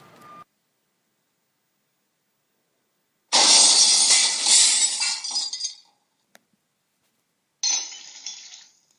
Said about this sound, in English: Right, I'm in. I've punched through the glass partition and... Okay, I'm in.